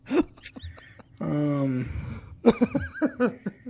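A horse whinnies loudly: a sustained, wavering neigh, then a series of quick, fluttering nickering bursts that trail off near the end.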